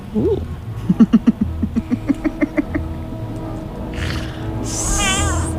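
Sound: cat meowing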